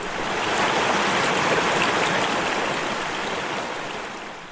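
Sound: mountain creek water flowing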